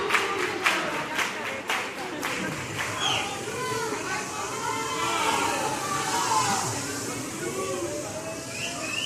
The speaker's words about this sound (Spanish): Y recibiéndolo con su grito habitual, su público, el Falla.